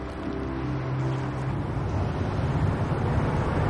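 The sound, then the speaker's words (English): A steady, low engine rumble with road noise, like a car driving along at a constant pace and pulling up to the back of a large building, fairly loud, with no voices. “Chris pulls up to the back of a large building.”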